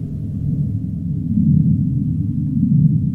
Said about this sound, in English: Sei whales, that low rumble in the south.